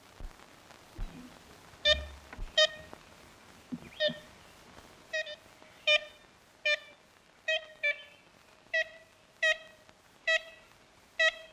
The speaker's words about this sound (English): That was the first, and possibly the last, recording of an ivory-billed woodpecker.